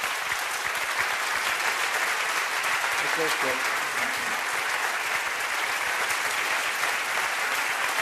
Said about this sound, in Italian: E credo che anche questo applauso che ascoltate, che vedete se guardate la nostra diretta streaming, sia a dimostrare che questo è un punto dal quale non si può prescindere.